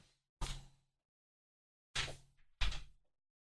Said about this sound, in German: Ich mache mal ganz kurz die Tür zu. Bleibt mal eben dran, bitte.